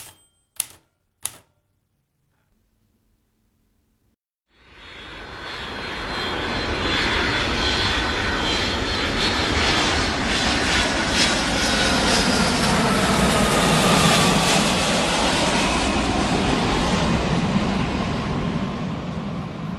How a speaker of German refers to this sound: Verschlafen wachte ein jugendliches Mädchen auf, als das Flugzeug, in welchem sie sich befand, gelandet war. Endlich war sie wieder in ihrem Heimatland, Japan, angelangt.